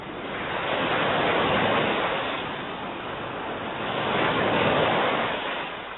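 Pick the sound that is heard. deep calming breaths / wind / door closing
wind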